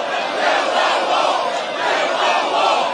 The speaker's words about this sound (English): They're screaming, build the wall. Build the wall.